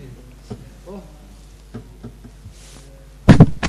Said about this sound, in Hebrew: אז הוא ראה את הפוזה שהוא דופק, הוא ככה דופק על על הרגל הזה.